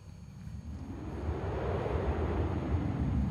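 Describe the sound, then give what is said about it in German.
A steady rush of wind buffets the microphone, building from a softer start into a broad, continuous low roar that holds for a few seconds with no voices. “Also auch da windelt es schon wieder ein bisschen, windet es ein bisschen so rum.”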